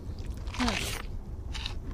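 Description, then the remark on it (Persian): Someone bites into and chews crunchy food, with a burst of crisp crunching and scraping early on, then a shorter crunch near the end; no talking. “دیگه نباید بیشتر بخورم، ولی خب خیلی خوشمزه.”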